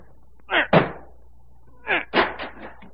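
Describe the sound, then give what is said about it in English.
A door is battered with a heavy chair: two loud wooden crashes, a pause, then a quicker burst of three or four more splintering blows. “Break down the door. Here, this heavy chair will do it.”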